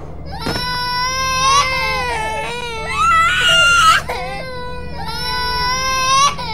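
Two young children wail loudly in a house, their high, strained cries rising and falling in long sustained bursts for several seconds, with a low steady hum underneath.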